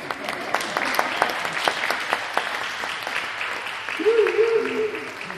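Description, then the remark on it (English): A crowd claps steadily for the January and February group in a dense wash of overlapping hand claps, with sharper individual claps standing out; a voice briefly talks over the applause near the end. “Give them a round of applause, January and February people.”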